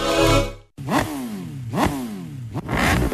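A motorcycle engine revs hard three times in quick succession, each throttle blip rising sharply then winding back down, loud with no voices.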